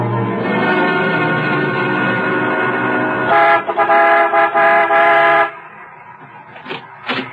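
In the radio drama Night on Red Mountain, a car horn blares as a car drives in to a filling station, a long, steady, loud toot, then a run of short choppy honks before dropping to a quieter rumble with a couple of faint final beeps.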